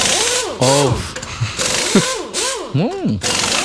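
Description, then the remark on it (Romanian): A voice imitates an impact wrench at a tire repair shop loosening a car's wheel nuts: a series of buzzing, whirring bursts that swoop up and down in pitch, loud and rapid, with brief gaps between them. “Dar știi sunetul ăsta foarte frumos de la roz de acolo, când te duci într-o vulcanizare, cred că e sunetul ăsta.”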